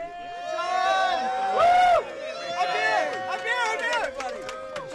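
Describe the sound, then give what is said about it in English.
A busy murmur of many overlapping voices outdoors outside the Beantown Coffee House in Hampstead, New Hampshire, from a crowd of Huntsman campaign workers, local Republicans, undeclared independents and tourists, steady and fairly loud, with one voice rising briefly above the babble in a louder burst. “The crowd outside the Beantown Coffee House in Hampstead, New Hampshire, is a mix.”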